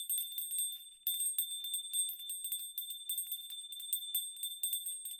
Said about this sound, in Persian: خوردن نیمرو با روغن زیتون و چاپاتی چرب زیر درخت مقدسی که باد زنگولش رو مدام تکون میده طعم دیگه ای داره.